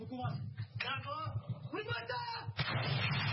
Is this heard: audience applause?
no